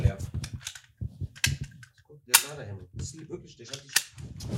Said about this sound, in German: Soll ich Schüsse einblenden?